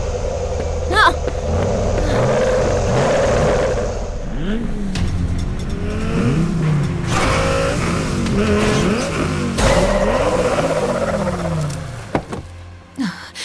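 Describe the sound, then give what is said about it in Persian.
Several car engines rev and roar, pitch rising and falling as the government-owned vehicles accelerate and are driven away, a steady loud rumble throughout with voices shouting underneath. “هی ماشینا رو نبرین. بله ماشینا، اون تجهیزات متعلق به دولت هستن.”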